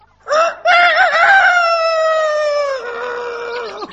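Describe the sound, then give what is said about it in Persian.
A rooster standing on top of a wall near a village crows once, a short opening note followed by a long, loud, sustained call that wavers and then drops in pitch at the end, with no other sounds. “وقتی به نزدیکی های روستا رسید دید یه خروس بالای دیوار ایستاده و مراقب همه جاست.”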